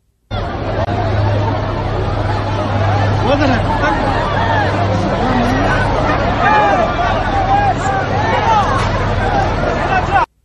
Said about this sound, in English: Now, here's a scene, just a brief glimpse of the scene at Kabul Airport, and it is total chaos. Listen.